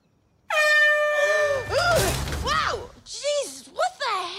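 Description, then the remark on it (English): A loud, sustained air horn blast kicks in abruptly and holds for about a second, then gives way to a chaotic jumble of crashing noise and warbling, wavering tones. “Was the air horn really necessary?”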